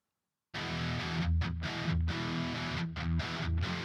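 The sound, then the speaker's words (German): A Telecaster electric guitar with relatively low output, played through a hard Rectifier distortion, plays chunky chords after a brief silence, with short choppy gaps between strums, dense and saturated throughout, no voices. “Das war eine relativ harte Verzerrung, aber die Telecaster hat verhältnismäßig wenig Output.”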